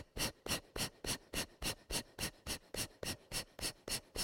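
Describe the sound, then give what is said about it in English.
Fast, forceful belly-pumping breaths in a breathing exercise, the belly pulled in and out in a steady rhythm, about four per second, each a sharp airy burst, with no talking over them. “Pull the belly in and out. There's no time that the belly stays in, though.”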